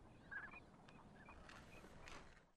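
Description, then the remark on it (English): A large flock of waterfowl, including snow geese, northern pintails, Canada geese, American black ducks and mallards, calls continuously at Montezuma during peak migration. Overlapping honks and quacks form a dense, busy chorus, with no talking. “The sky is filled with hundreds of thousands of snow geese, northern pintail ducks, Canada geese, American black ducks, mallards, and nearly two dozen other waterfowl species.”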